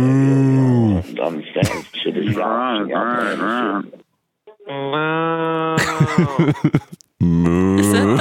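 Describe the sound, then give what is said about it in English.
A woman from Boston imitates a cow, giving several drawn-out, wavering moos with strong harmonic tone, loud and separated by brief pauses, with a breathy break near the middle. “Is that the lady from Boston mooing?”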